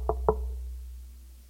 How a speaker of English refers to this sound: Somebody comes off, knocks on your door.